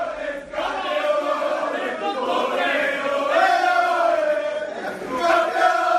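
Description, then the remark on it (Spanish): Football Club Barcelona players chant loudly together in their locker room at Riazor after beating Deportivo de La Coruña 2-4 to win the league title, a dense group of voices shouting "campeones" in rough unison with a steady, rising-and-falling rhythm that never lets up. “Este es el sonido del vestuario del Barça después de haber ganado en Riazor 2-4 al Deportivo de La Coruña con un hat-trick de Leo Messi y de levantar el título número 25.”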